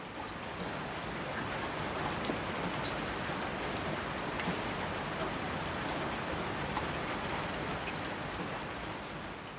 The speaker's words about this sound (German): Ja, das ist er also, der legendäre Regen im Bergischen Land.